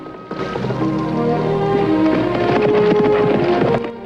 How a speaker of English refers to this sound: Ben gallops across the meadow and comes to the farmyard.